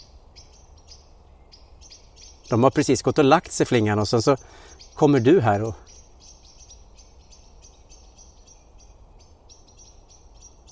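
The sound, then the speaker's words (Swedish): Agitated birds in trees give repeated high, thin chirps and calls throughout, fairly faint and steady, while a person speaks briefly in the middle over a soft background hiss. “Men hör du nu, vandra, vad fåglarna blir upprörda här.”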